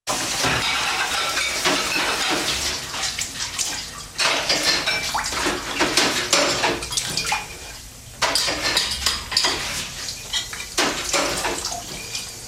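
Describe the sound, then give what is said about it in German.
Running water rushes steadily while dishes are washed, with repeated clinks and clatters of pots and glasses scattered throughout. No voices are heard. “Sie finden Abwaschen langweilig?”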